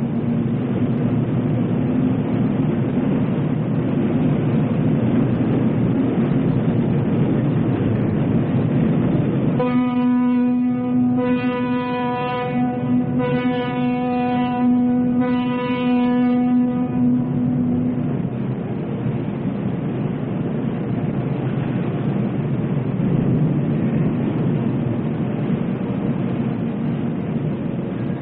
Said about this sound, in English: Metal just pours out, and there is no stopping. The minute that that heat is tapped, it just roars out.